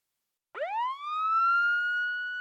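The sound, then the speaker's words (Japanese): A tsunami warning siren in Japan, sounding as a tsunami warning is issued for an expected 2-metre tsunami after a large earthquake abroad, starts abruptly after a moment of silence, sweeping sharply upward in pitch and then holding a loud, steady wailing tone with strong harmonics. No voices are heard. “ただいま津波警報が発表されました。”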